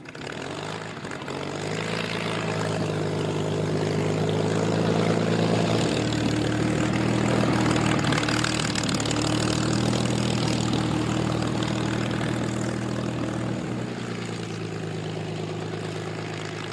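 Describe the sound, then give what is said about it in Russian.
The engine of a Blériot XI, the early monoplane Jan Kašpar bought in France, runs steadily, a loud, rough drone with a throbbing low hum that holds for the whole stretch without any voices. “Над землей Яна Кашпара тогда подняли крылья приобретенного им во Франции самолета «Блерио-11».”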